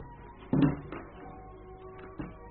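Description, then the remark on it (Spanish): A door shuts with a firm wooden thud, followed by a lighter knock and another soft bump a moment later, over a low steady hum with no talking. “Cierra la puerta, pero queda observando a través de las rendijas hacia el largo pasillo”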